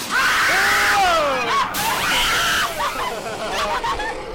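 Several people scream loudly at once on a scary ride, high shrieking voices overlapping and sliding in pitch over a few seconds, with a rush of background noise beneath.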